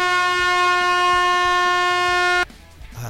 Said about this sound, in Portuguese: Tá, valeu, já valeu a buzina.